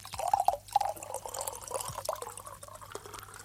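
Liquid glugs and splashes as whisky is poured from a bottle to be served to Tintin, with a burst of bright gurgling early on, then a steadier trickle that fades slightly toward the end.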